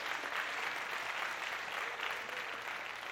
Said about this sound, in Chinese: 给我们的 AVL 同工热烈的掌声。